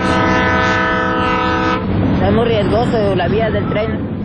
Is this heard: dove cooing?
no